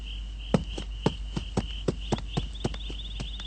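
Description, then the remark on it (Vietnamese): The horse Kiện Trắc's hooves clip-clop at a slow, steady walking pace at night as it carries its rider on a long journey, each hoofbeat crisp, while crickets chirr continuously in the background. No one speaks. “Thôi, ngươi hãy đem con ngựa kiện trắc ra đây.”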